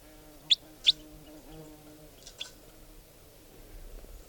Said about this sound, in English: Wild type 4 bird came in, and now it's giving song. And it's in the trees above here somewhere.